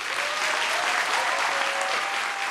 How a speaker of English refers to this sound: Believe me, the applause is for John Waters.